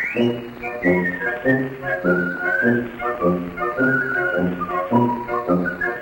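A bright whistled melody glides and trills over a bouncy orchestral accompaniment, with the muffled, narrow sound of an old record playing steadily throughout.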